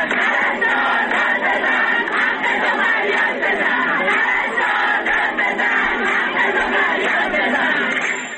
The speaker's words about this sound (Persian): در ویدیوهایی که از این تجمع در شبکه‌های اجتماعی منتشر شده دیده می شود که این پرستاران به نشانه اعتراض به وضعیت معیشتی خود سفره خالی به دست گرفته و فریاد می زنند پرستار داد بزن، حقتو فریاد بزن و یا وعده و وعید، کافیه سفره ما خالیه.